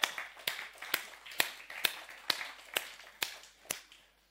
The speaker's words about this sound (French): Mais vous êtes là. Et quelle grâce. Alors moi, je vais vous applaudir. Vous êtes formidables.